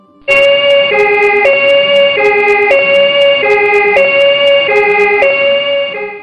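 A loud ambulance siren, the ambulance arriving at a building fire to take the injured away, alternates steadily between two pitches in a quick hi-lo pattern, running continuously after a brief quiet start, with no voices.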